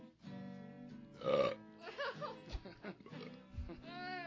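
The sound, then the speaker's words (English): A long, loud, drawn-out burp, croaking and gurgling for about four seconds as its pitch wobbles up and down, with no talking. “Oh man, that burp smelled bad, didn't it”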